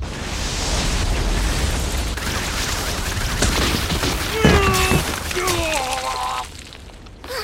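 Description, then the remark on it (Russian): A dense, roaring burst of magical impact noise from an ice daggers spell, with sharp cracking and shattering transients, rising whooshes and metallic ringing tones, loud throughout before abruptly dropping off near the end. “Ледяные кинжалы.”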